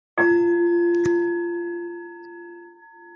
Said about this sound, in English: So I'll just ring the bell to signal the beginning of the meditation.